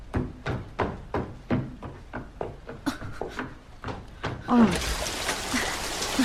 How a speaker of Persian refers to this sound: نمیتونی بری، داره بارون میاد.